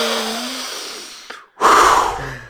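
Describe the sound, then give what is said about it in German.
A voice imitates a neighbour's heavy, huffing breaths: one long noisy exhale, a brief pause, then a loud, rough snorting rush of air, forceful. “Die schnauft doch immer so, Ja, die oder?”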